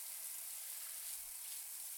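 running shower water

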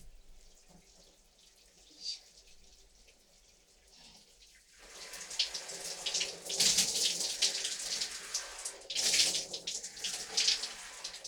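water running

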